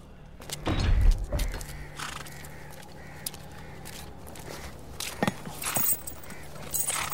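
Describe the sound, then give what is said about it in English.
A horse's hooves clip-clop and stamp on a hard surface in scattered, irregular steps, with a steady low hum underneath and no talking. “Want a hand getting onto your horse, Doctor?”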